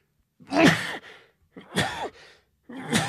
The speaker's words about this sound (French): Pardon, un éternuement.